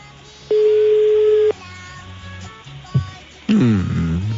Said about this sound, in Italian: Secondo squillo, terzo squillo. E rispondi.